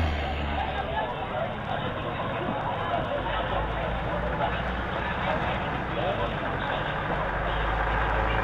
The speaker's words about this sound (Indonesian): Lihat, Pak. Apa yang dilakukan truk-truk itu? Oh, itu truk-truk pengangkut sayur. Dari mana truk-truk itu, Pak? Dari desa-desa penghasil sayur tentunya.